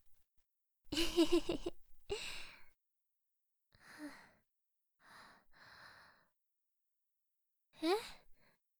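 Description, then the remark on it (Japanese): A drawn-out, voiced yawn, followed by several softer breathy exhales and a final short yawning sigh, with quiet gaps between them and no talking. “息？荒くないよ。あくびかな。眠いのかも。”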